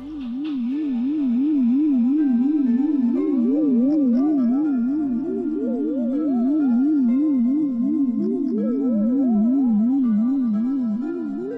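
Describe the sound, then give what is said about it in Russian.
Spotted croaker fish humming: a steady, loud low hum that wobbles rapidly and evenly in pitch, joined partway through by a second warbling tone that rises and falls, with no talking. “Волнистый горбыль гудит.”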